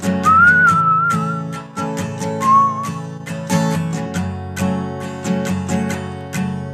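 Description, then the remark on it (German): A bright whistled melody rises over a full band backing with a steady, punchy drum beat, the whistle coming in two short phrases near the start before the music carries on. “Übrigens, die, die können pfeifen, können gerne mitpfeifen.”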